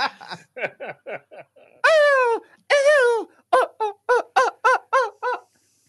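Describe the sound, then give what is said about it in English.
A person imitates a chicken: a quick run of short clucks, two long drawn-out squawks, then a steady string of louder, evenly spaced clucks, with no other sounds. “He could do a chicken because that was dinner walking around in Georgia sometimes.”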